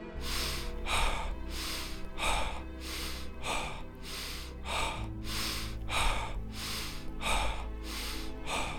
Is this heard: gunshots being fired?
no